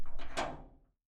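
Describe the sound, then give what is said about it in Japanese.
A man locks a room door: the door swings shut with a solid thud and a quick rattling clunk of the latch, the sound ringing briefly before fading to silence. “誰もいないと思っていた室内、突然現れた男が部屋のドアに鍵をかけ閉じ込められてしまう。”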